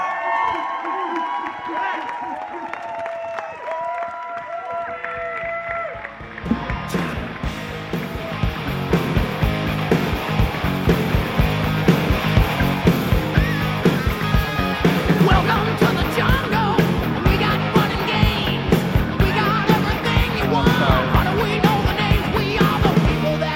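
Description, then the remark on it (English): A large crowd erupts into loud, sustained cheering, yelling and clapping that swells after a few seconds of murmuring and keeps going steadily, energetic throughout, as an audience welcomes a guest speaker. “You guys were cheering me on.”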